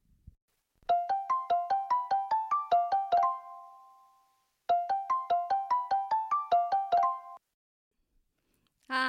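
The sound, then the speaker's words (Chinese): An outgoing phone call's ringback tone: two bursts of rapid, melodic electronic pulses separated by a pause, clear and fairly loud with no talking, then a brief click as the line connects. “那现在就让我们一起来拨电话给他吧。”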